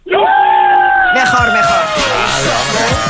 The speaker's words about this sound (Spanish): Venga, si me mandas 3, gritamos los 3 que estamos aquí.